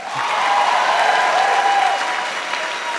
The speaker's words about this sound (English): Come on down. Come on down. Keep clapping!